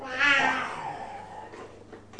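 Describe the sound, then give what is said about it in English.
A voice imitates a lion's roar, as the sounds animals make are being asked of a child, with one drawn-out, fairly high-pitched cry that swells quickly and trails off, followed by quiet and a brief sound at the very end. “What does a lion say, do you know?”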